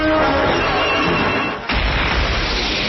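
A loud, thunderous crash of a collapsing building: dense roaring rubble and rumble, briefly easing before a renewed heavy crash of debris, with no voices.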